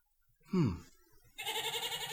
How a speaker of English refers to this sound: This is so crazy. A goat! I mean, what am I going to do with a goat?